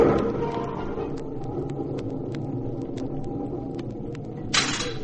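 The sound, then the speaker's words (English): A terrific clap of thunder during a heavy gale rolls out as a deep, sustained rumble, sprinkled with faint sharp crackles and ending with a brief burst of noisy hiss. “Suddenly, there was a terrific clap of thunder.”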